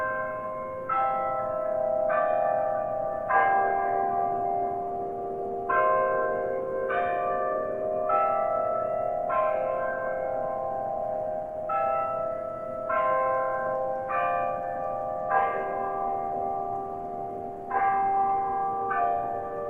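A church bell peals continuously, with repeated strikes ringing out in a steady, overlapping rhythm and long sustained tones that hang between hits. Fairly loud, with no voices.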